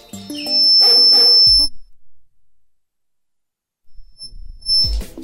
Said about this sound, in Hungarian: egyelőre még Samu csipog itt egy játékkal.